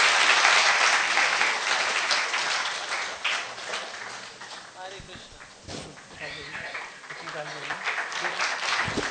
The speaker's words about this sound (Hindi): सब लोग ताली बजाइए प्लीज, कंजूसी नहीं ताली में।